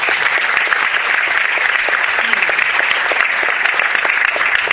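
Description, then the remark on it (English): Sustained applause from an audience for a cartoonist and architect, dense and steady clapping at a consistent loudness throughout, with no voices standing out above it. “Next up, should we do a round of applause for him?”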